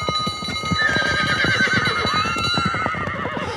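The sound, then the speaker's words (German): A pony named Paulchen, in a race, whinnies in a long, wavering high-pitched neigh while its hooves clop in a quick, steady trotting rhythm across the racetrack, both fairly loud throughout. “Ach du liebe Güte, was macht denn das Pony?”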